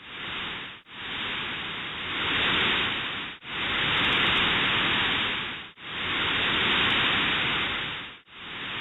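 A resting, non-erupting volcano gives off a steady, dense hissing roar of rising and falling heat, humidity and steam that swells and subsides in long breath-like waves, with brief dips between each surge and no voices.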